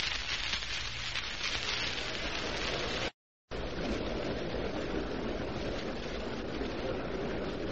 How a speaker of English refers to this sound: The crowd is buzzing. People are filing to their seats.